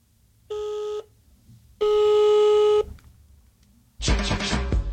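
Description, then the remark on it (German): A telephone being dialed again after a wrong number: two electronic beeps, a short one then a longer one, followed by a louder, rougher burst of line noise. No one speaks. “Entschuldigung, verwählt. Oh, shit. Also, dann nochmal, also, letztes Mal hier.”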